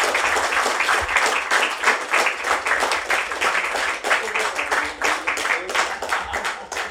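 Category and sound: crowd, audience applause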